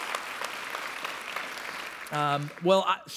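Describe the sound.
An audience at a church service applauds the men who preached while the pastor was away, with a steady, dense patter of clapping for about two seconds, then the applause gives way as a man begins speaking.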